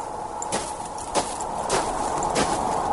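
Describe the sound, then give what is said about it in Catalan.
Four evenly spaced crunching footsteps on what seem to be small pebbles, each a short gritty burst, with slightly tired breathing, over a steady, soft hiss of wind. No one speaks. “So de vent suau, petjades en els que semblen pedretes, respiració un punt cansada...”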